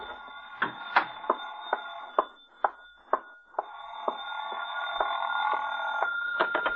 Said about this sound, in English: Oh, excuse me, the phone.